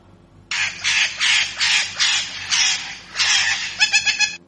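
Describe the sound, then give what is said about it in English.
A parrot squawks loudly and harshly in a rapid series of about eight raspy calls, alone, ending in a quicker cluster of shorter screeches. “P for parrot.”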